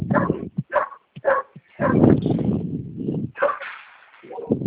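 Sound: dog barking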